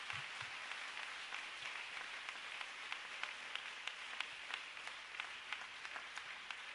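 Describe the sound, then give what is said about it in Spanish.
A church audience claps steadily for several seconds, applauding God, dense overlapping hand claps with a few sharper individual claps standing out; no one speaks. “¿Alguien me le puede dar un aplauso al Rey de Reyes y Señor de Señores?”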